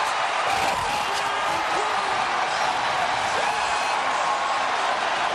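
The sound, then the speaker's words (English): A big stadium crowd of about 45,000 Brewers fans watching a Jumbotron cheers as the Brewers reach the 2008 playoffs, in one continuous, dense roar that stays loud and steady throughout, with scattered voices blurred into the wash of noise. “That is the crowd.”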